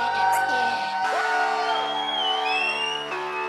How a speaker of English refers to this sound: Please give a round of applause for the beautiful, beautiful band.